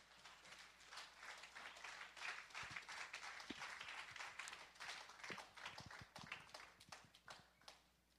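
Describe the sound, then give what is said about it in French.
An audience at a church service applauds together, a dense, steady patter of many hands clapping that carries on without a break, fairly loud, with no one speaking over it. “Lève-nous tous ensemble. Donnons une bonne main d'acclamation à notre.”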